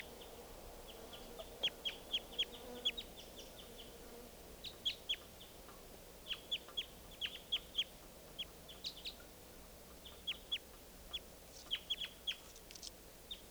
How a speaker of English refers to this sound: Wild bird.